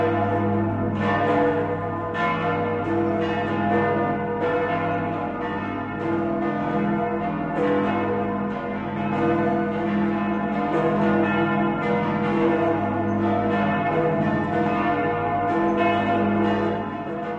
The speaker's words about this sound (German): Dass nun so herrliche Glocken wie die des 1089 gegründeten Stiftes Melk an der Donau die Weihnacht 2011 einläuten können. Sie gelten als das großartigste barocke Glockenensemble der Welt